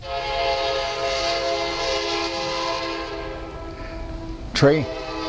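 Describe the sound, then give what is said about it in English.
A train horn blares in a long, steady, loud blast that slowly fades as the train rolls by, followed by a brief wavering tone near the end. “The train was blessed and felt like somebody needed to be blessed.”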